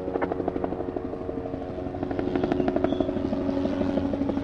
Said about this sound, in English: All morning long, police radios cackled, ambulances raced across town, and helicopters flew overhead taking in the damage.